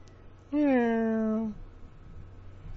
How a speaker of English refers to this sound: Meow. Yeah. You're starting to meow like a normal cat.